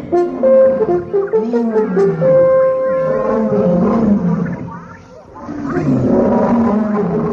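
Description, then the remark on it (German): An approaching lion roars in long, deep, rumbling bursts that fill the whole stretch, loud, swelling and fading with a brief dip before rising again. “Ein Löwe kam näher.”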